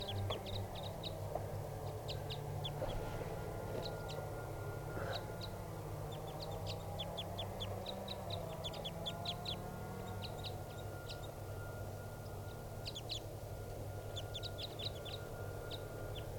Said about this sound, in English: That wild bird's still up in the top of the tall tree preening, and he's with another bird now. I think it's another crossbill. It's a greenish one. Stop. They're kind of the birds calling now, ready to take off.